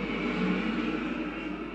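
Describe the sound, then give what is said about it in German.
A steady, broad roar of aircraft engines rumbles continuously overhead, holding an even loudness throughout without any speech. “Ich vermute, Sie können nicht so richtig schlafen wegen der Flugzeuge.”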